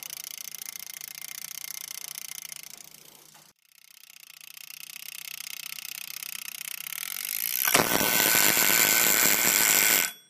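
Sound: timer alarm going off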